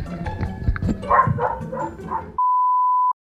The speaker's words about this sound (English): Do you guys hear my dog barking? I'm sorry. Can you guys hear that at all? She's outside.